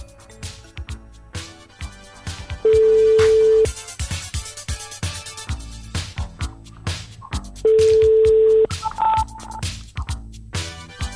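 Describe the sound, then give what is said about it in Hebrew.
A phone line rings out with two long, steady ringback tones about five seconds apart, loud and clear over busy background music, with no one picking up. “ננסה בטלפון השני?”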